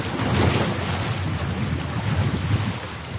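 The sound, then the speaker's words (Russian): Sea waves crash and surge against a stone embankment in Sevastopol in a continuous, loud roar, with rumbling low swells and wind buffeting the microphone throughout. No one speaks. “Здесь, в одетую камнем набережную, силой бьется морская волна.”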